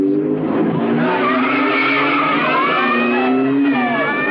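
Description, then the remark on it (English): A getaway car, a white Alfa Romeo Giulia with Naples plates, careens around a corner in the Santa Lucia area, scattering street vendors as it slams into their displays; tires skid and squeal in a long, loud, wavering screech over a roaring engine, continuous throughout, with no voices. “Meanwhile, the getaway car careens around the corner, scattering street vendors as it slams into their displays before ducking down a laneway with a police car on its tail.”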